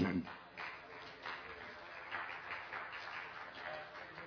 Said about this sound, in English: Yeah, that was the golf clap.